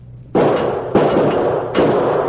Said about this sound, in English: Never mind the key, you fool. Use your six-gun and blast the lock to pieces. It'll be awful noisy, boss.